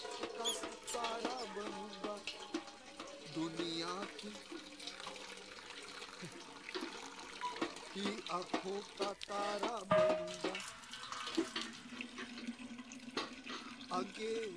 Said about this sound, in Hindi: बीरो का नंबर आ गया। बीरो पानी भर रही है।